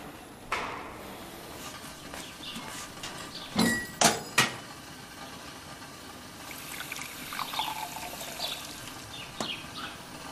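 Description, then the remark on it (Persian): A few sharp clinks, like a glass or jug being handled, followed by cold water being poured, a soft trickling splash at moderate volume, with no one speaking. “بابا جون، آب سرد برات خوب نیست.”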